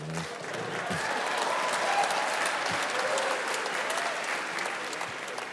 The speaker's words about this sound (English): Strange applause breaks here.